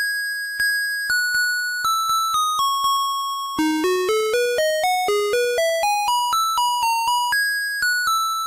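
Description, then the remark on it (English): A garbage truck's musical jingle in Taiwan, signalling that the garbage truck is coming, plays a bright, electronic chime-like melody: a few slow descending notes, then a quicker run of rising and falling tones in a steady rhythm, with no talking. “No, that's the garbage truck music in Taiwan.”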